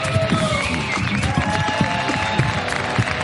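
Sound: audience applause and cheering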